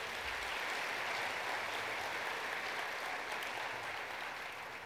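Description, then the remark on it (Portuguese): An audience at a morning church service claps for Jesus in steady, dense applause, a sustained wash of many hands with no pauses, fairly loud and even throughout, with no voices standing out. “Você pode aplaudir a Jesus aí?”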